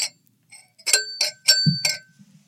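Glass clinking during a trick with a drinking glass that stays unbroken: four or five bright, ringing glassy clinks in quick succession, fairly loud, with a soft low thud among them and a brief faint tap beforehand.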